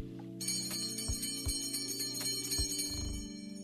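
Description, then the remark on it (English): An automatic bell rings steadily and fairly loud, a sustained metallic tone starting after a brief quiet moment, with a few sharper clanks breaking through along the way. No voices. “That was an auto bell.”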